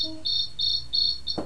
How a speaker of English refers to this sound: Look at the cricket again.